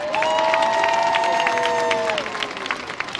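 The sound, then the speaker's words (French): A large crowd in St. Peter's Square cheers and claps as the Pope appears at the window of the Apostolic Palace for the Angelus and calls for peace. A loud sustained collective shout holds for about two seconds over dense applause, then eases into a softer murmur with scattered claps. “L'évêque de Rome paraît aux fenêtres du palais apostolique et lance son cri pour la paix sous les vivats de la foule.”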